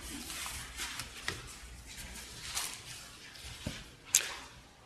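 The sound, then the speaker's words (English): Pages of books rustle and turn as people look for the Book of Habakkuk, in scattered, soft papery swishes with a few sharper flicks, one crisper than the rest near the end. No one speaks. “Pages are still rustling, I'll give you a little more time, it's hard to find.”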